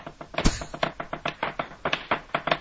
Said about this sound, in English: As he drums away on his desk because he's bored. No, it's the 60s, so he's drumming.